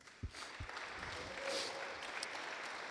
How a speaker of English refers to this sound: Now I'm scanning the room, and I'm watching some of y'all clap that you've been baptized.